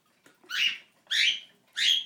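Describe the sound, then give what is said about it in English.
A pet cockatiel gives three short, raspy squawks in a steady rhythm, each about a quarter second long, with quiet gaps between them and no talking. “Well, she's doing random cockatiel noises.”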